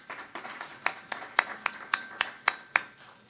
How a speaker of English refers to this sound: Now, that deserves a round of applause, don't you think?